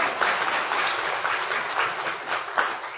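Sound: audience clapping applause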